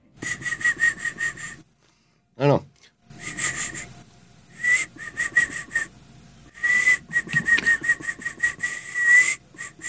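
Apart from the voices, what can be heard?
person whistling a tune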